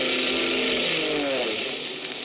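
A loud, steady propeller engine drone of an approaching army plane, with a throbbing, buzzy mid-range tone; its pitch wavers slightly and it eases off a little toward the end. No voices.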